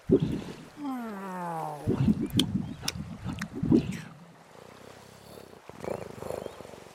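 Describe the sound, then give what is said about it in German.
A cat purrs in a steady, rhythmic low rumble, fairly loud, with a brief higher gliding cry near the start and a softer stretch of quiet texture toward the end. “Dann übernimmt Katze auch das Ruder.”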